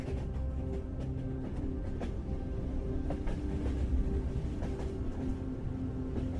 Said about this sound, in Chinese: 接着火车就要翻越此行的最后一个山脉，念经唐古拉山脉。